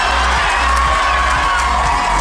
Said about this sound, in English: Well, you can hear the reaction of the crowd. They sense the match-winning score here.